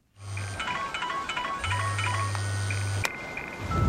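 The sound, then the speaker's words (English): A telephone rings at the scene of a car crash in two buzzing electronic bursts, a short one and then a longer one, with bright warbling tones above. The ring cuts off abruptly near the end as it is answered, and no one speaks. “Here's a bit where one answers a phone at the scene of a car crash.”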